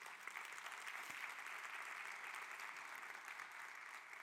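An audience at a church sermon applauds steadily, a dense wash of clapping that holds at an even level for the whole stretch without a break or any voices rising above it.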